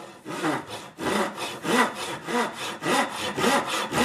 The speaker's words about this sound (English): It sounds like sawing through wood, but bamboo is a grass, and while it's easy to cut, in its raw form, it's hard to imagine how long tubes of bamboo can be crafted into a proper roadworthy bicycle.